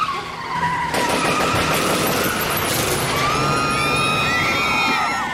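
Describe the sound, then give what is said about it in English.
A car slowly passes a parked SUV at the curb with a steady, loud engine roar and rising, screeching tire squeals toward the end; no voices are heard. “A car slowly passed it, and as it did, a barrel protruded out of the dark-tinted driver's window”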